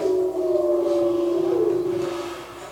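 Wolves howling together, their long, drawn-out tones overlapping in a steady mid-pitched chorus that glides slightly in pitch and softens toward the end, with no talking.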